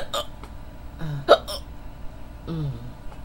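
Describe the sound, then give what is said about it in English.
Hiccups from a sleepy person trying to fall asleep, hiccupping off and on for about 15-20 minutes: a sharp, clicky hiccup stands out near the middle, with softer voiced gulps before and after it against a quiet background. “I'm really trying to fall asleep. But I can't due to these hiccups.”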